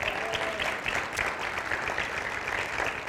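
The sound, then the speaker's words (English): An audience claps steadily together as a clap offering to the Lord, a dense, sustained wash of many hands for a few seconds, fairly loud and even throughout, with no voices standing out. “And I think we ought to give the Lord a clap offering because our men get to work Saturday.”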